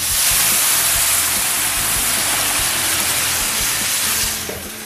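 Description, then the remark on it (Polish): A loud, steady hissing sizzle of vegetable broth poured onto rice toasted for about 3-4 minutes in a frying pan, steam rushing continuously for several seconds before easing off slightly at the end, with no talking. “Kiedy ryż jest już trochę sprażony, zalewamy go bulionem warzywnym.”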